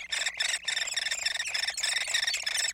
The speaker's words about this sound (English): That's a hairy woodpecker chick in its nest cavity deep within a dying tree.